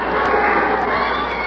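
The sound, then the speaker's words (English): A large crowd at a boxing arena roars and cheers continuously as the fighters are introduced before a fight, a dense, loud wash of many voices with no pauses. “Oh, they're with me. The crowd's with me.”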